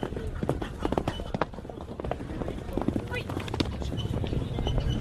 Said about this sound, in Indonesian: Oh, kuda-kuda berlari kencang menyusuri jalur berdebu di kota kecil Pechevo, Bulgaria pada hari Santo Theodorus, yang juga disebut sebagai Paskah Kuda dan dikenal secara lokal sebagai Todorov Dam.